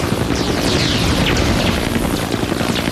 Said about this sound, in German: Helikopter über Reservat bedeutet Gefahr, ganz besonders, wenn er in unsere Richtung fliegt und seinen Suchscheinwerfer eingeschaltet hat.